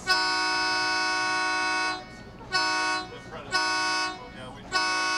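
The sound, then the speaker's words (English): The horn of the boat Escapade sounds four times as it backs away from the dock on Green Lake, a long steady blast followed by three shorter ones, loud and brassy with a rich stack of harmonics, with brief murmurs of activity in the gaps. “With the sounding of its horn, the boat Escapade backs away from the dock.”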